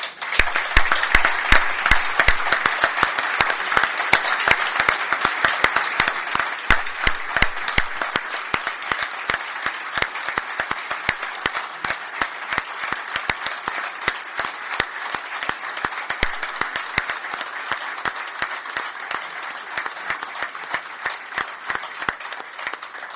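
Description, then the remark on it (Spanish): Audience applause, a dense, steady wash of many hands clapping that holds strong for over twenty seconds, then eases slightly toward the end without stopping, at the opening of the Spanish Church's plenary assembly of bishops, priests, lay people and consecrated people, before the Apostolic Nuncio. “aquí ante el Señor Nuncio de su Santidad, la comunión con el sucesor de Pedro de toda la Iglesia española, representada en este acto de apertura de la plenaria por obispos, presbíteros, laicos y consagrados, y que lo hagamos con un fuerte aplauso.”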